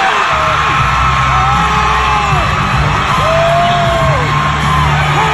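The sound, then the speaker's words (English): A large concert crowd at a singer's fundraising concert for Florida cheers loudly and continuously for Governor Ron DeSantis as he is brought on stage, a dense roar of voices with rising and falling whoops and yells standing out above it, plus a steady low droning underneath. “Oh, listen to those cheers.”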